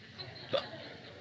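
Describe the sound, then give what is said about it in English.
A single small, high-pitched hiccup from a four-day-old baby girl pops out near the middle, short and sharp against quiet background noise. “She's got the hiccups.”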